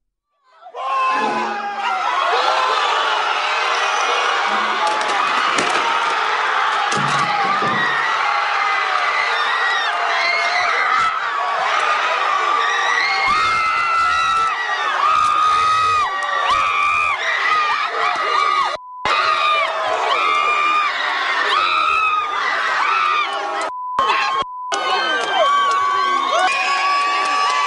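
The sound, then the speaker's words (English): A large crowd of young American university students cheers and shouts continuously for nearly half a minute, a loud dense roar of overlapping voices with high whoops and yells, broken briefly by a few abrupt cuts. “These are young Americans, a university of higher education and learning, and listen to what they sound like.”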